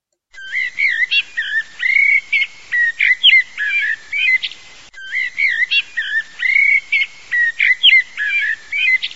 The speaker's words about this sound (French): Dès le début du printemps également, le merle lance ses roulades et ses vocalises jusqu'en ville, perché sur les cheminées. C'est l'un des meilleurs chanteurs de nos régions.